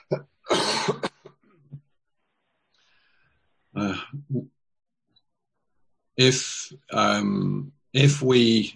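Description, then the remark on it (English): A person coughs several times: a sharp burst, a long pause, a short cough, then a quick cluster of harsh, throaty coughs near the end. “excuse me, I'm going to cough a minute.”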